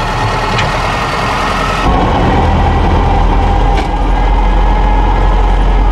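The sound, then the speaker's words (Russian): A T-40AM tractor engine runs loud, a steady low diesel rumble that grows slightly heavier about two seconds in and keeps chugging evenly, with no voices. “Вы хотите послушать Т-40АМ?”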